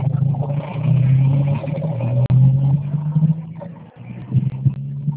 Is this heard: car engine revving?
yes